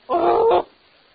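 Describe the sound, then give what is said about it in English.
A single loud dog bark, drawn out into a half-second harmonic yelp, followed by near silence. “You bark a little.”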